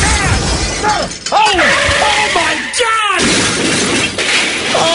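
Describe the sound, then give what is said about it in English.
A loud car crash, a car smashing into a person in a parking lot, fills the whole stretch: dense shattering glass and crunching metal with screeching, squealing tones sliding over the top, never letting up for several seconds. “That's when the car smashes into the patient in the parking lot.”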